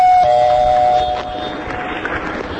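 A doorbell chimes loudly with two clear tones, the second slightly lower, ringing for about a second before fading into a steady hiss of background noise.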